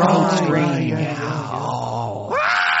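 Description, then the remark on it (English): A goat screams in a long, strained, almost human-sounding cry that wavers and sags in pitch, then breaks into a sharp rising second yell at the end. “Anyone who's anyone who knows anything about goats know that these rectangle-eyed demons make weird human-sounding screams.”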